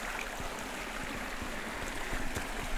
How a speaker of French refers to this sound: à Chmila, dans le parc national du paradis slovaque. Dans la gorge, où s'écoulent les failles, le ruisseau et les falaises calcaires.